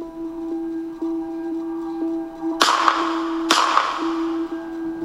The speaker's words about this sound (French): Deux coups de feu éclatent.